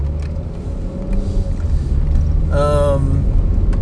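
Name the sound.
car driving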